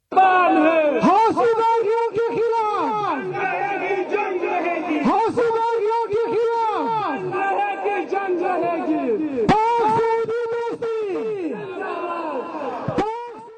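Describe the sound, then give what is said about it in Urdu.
Protesters at a demonstration in Quetta, Pakistan, organised by Markazi Jamiat Ahl-e-Hadith and Ahl-e-Sunnat Wal Jamaat, chant loudly in unison against the Houthi rebels in Yemen and in solidarity with Saudi Arabia, repeating slogans in a steady rhythm with rising and falling shouted phrases, sustained throughout with no pauses. “ادھر کوئٹہ میں مرکزی جمعیت اہل حدیث اور اہل سنت والجماعت کے زیر اہتمام ایک مظاہرہ ہوا ہے, جس میں شریک مظاہرین نے یمن میں حوثی باغیوں کے خلاف اور سعودی عرب سے اظہار یکجہتی کے لیے نعرے لگائے.”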